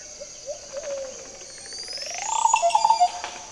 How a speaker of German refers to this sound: Genau, da war er. Ist nicht zu überhören, oder? Dieser Vogel heißt Oropendula. Allein schon sein Name ist sehr exotisch. Oropendula. Achtung, gleich macht er sich wieder bemerkbar.